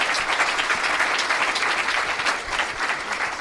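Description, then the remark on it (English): An audience breaks into sustained applause for first-time show guest Josh Wolf, a dense, steady wash of many hands clapping that stays loud and even throughout, with no voices standing out. “And let's hear it for first-time guest Josh Wolf, everybody.”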